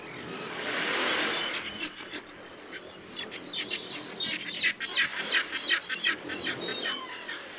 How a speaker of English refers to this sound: Full in the belly, blackback gulls and herring gulls preen and close their eyes, content.